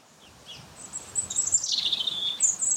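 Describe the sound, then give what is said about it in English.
Wind rustles the leaves of an oak at Boscobel House, the son of the Royal Oak, in a soft, steady hiss that swells slightly, while thin, high bird chirps and a gliding whistle ring out over it. No one speaks. “You can probably hear the sound of the wind in the trees, oak leaves rustling on an ancient branch.”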